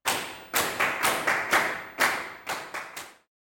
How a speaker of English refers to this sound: They clapped loudly.